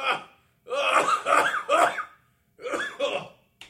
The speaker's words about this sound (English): Don't cough. Don't mute it. They're all going to hear anyways.